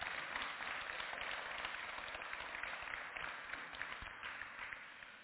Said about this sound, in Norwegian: Så det, jeg synes vi nesten skal gi en applaus for det.